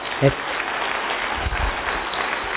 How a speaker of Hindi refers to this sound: जोर से स्क्रीन के लिए जरा जोर से तालियां बजाइए।